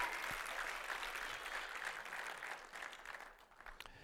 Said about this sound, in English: That was a weak applause. I mean, you might as well just had two or three people go, yeah, great job. You know, I mean, if we're going to applaud, let's applaud right.